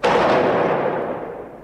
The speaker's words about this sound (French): Soudain, à l'intérieur de l'immeuble, une fusillade éclate. Les échanges de coups de feu vont durer environ 30 secondes.